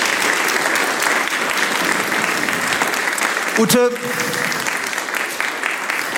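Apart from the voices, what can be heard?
big audience applause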